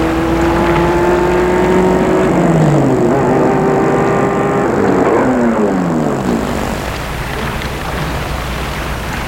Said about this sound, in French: Elle va chercher la voiture dans le parking. Elle revient avec la voiture.